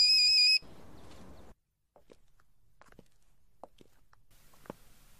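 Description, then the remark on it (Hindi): A telephone rings once in a short, loud, shrill electronic burst and goes unanswered. It cuts off into a hiss, then a brief silence, followed by scattered soft taps and footsteps. “कोई क्यों फोन नहीं उठा रहा है?”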